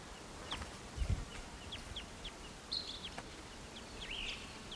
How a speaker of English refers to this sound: Oh, I'm sorry, it's a western wood peewee.